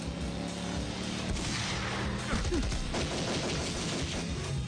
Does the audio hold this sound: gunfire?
yes